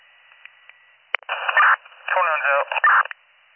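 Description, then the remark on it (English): Crackly, band-limited radio static bursts in after a couple of faint clicks, with harsh hissing noise and a garbled voice breaking through the transmission in loud, choppy surges. “Your radio is all static.”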